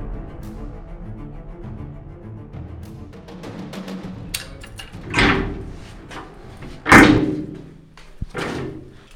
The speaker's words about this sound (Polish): Wyposażone są w podwójną zasuwę, tak zwaną. One da się otworzyć z zewnątrz i z wewnątrz. Żeby otworzyć te drzwi, musimy odsuwać o rygle, odryglować je właśnie dwoma zasuwami, czyli raz, dwa. I wtedy mocnym szarpnięciem jesteśmy w stanie je otworzyć.